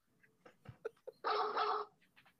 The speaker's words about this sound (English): Do we do music on this one? I thought we weren't doing music on this. No, on this one, we just do dogs barking.